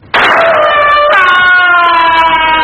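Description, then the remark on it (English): A loud siren warning from the 3UZ Shark Spotter aircraft, signalling that sharks are close to shore, blares steadily, its harmonic tone stepping up in pitch partway through and holding, with no voices present. “All swimmers are advised to pay special attention to the signals from 3UZ Shark Spotter aircraft.”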